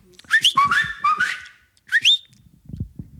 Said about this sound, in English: This is my whistle